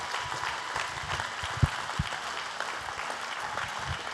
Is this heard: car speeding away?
no